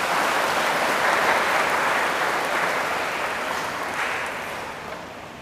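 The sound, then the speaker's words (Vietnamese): Sustained applause from a large crowd at a Buddhist talk, given to commit to a pledge, a dense steady wash of clapping lasting several seconds and fading slightly toward the end, with no talking over it. “Nếu các bạn hoan hỷ với lời đề nghị này thì các bạn hãy cho một tràng pháo tay để cam kết.”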